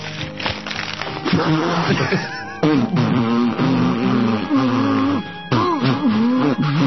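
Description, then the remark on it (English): A loud nose blow honked out to the tune of the US national anthem, "O Say Can You See", in a series of sustained, pitched bursts rising and falling like a tune, with brief breaks between phrases. “Did you just do Osei Can You See when blowing your nose?”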